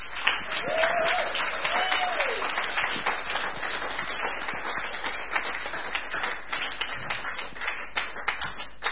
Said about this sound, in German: Und lasst uns doch mal ihn begrüßen. Ihn, die Hauptperson, mit einem Applaus. Jesus.